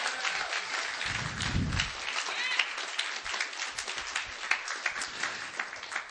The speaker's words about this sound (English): Come on, clap your hands unto God tonight. Come on, don't patty cake.